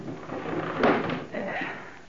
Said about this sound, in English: It's too late to find someplace else or I'd leave here right now. I'll close the window.